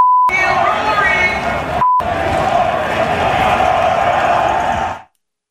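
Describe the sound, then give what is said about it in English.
At the Ryder Cup at Bethpage on Saturday, a loud crowd, led by the event's MC, comedian Heather McMahon, chants an "FU Rory" chant against Rory McIlroy in unison for about five seconds, the shouting cut twice by short, steady censor beeps, one at the start and one near two seconds, before stopping abruptly. “And she's leading an FU Rory cheer with the crowd.”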